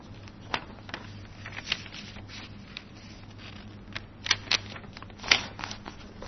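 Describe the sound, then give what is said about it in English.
A sheet of paper being folded: soft, dry crinkling and sliding with a few sharper crisp creases standing out, quiet overall with a faint low hum underneath and no voices. “And you just fold it very simply.”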